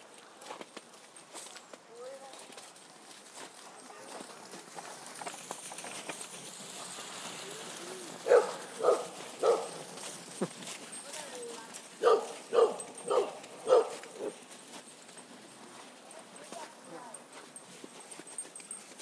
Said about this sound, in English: Dogs everywhere.